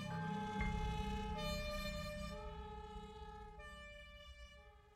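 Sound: approaching emergency vehicle sirens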